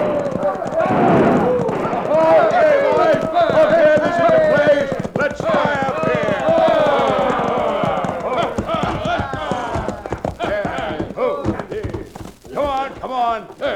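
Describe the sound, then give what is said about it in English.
Several horses ridden by a crowd of hoodlums gallop into the town of Dos Rios in a fast, steady drumming of hoofbeats, while the rowdy men shout and whoop loudly over the clatter throughout. “It all started when a crowd of hoodlums rode into Dos Rios, airing their lungs and triggering their guns.”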